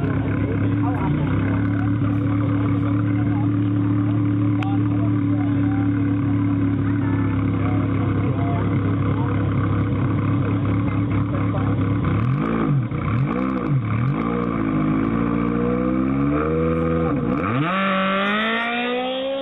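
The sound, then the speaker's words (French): A voice imitates the engine of a Zodiac inflatable motorboat: a steady buzzing drone that rises in wavering revs near the end, as if the boat suddenly speeds off. Fairly loud, with no other sounds. “Un bateau qui part d'un seul coup très vite.”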